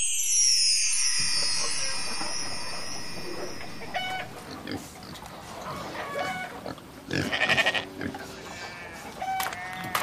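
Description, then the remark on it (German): A busy farm with pigs grunting, goats and sheep bleating in short overlapping calls, amid cows, chickens and a tractor, starting after a quiet moment with a high whooshing swell. “Kühe, Schweine, Hühner und ein Traktor. Ein Bauernhof.”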